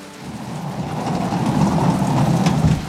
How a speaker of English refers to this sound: No work in this rain, McQueen's. Is that so, Finlay? My goodness, how did we never tack tent to the rain and it drumming on the roof all night long?